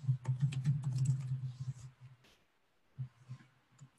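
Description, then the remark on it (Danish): Rapid typing on a computer keyboard to enter text into a field, a dense run of crisp key clicks that stops for about a second, then resumes in a shorter, sparser burst of taps. “Sådan der, og så kommer teksten her nedenunder, og den retter du bare ved at skrive hernede i feltet.”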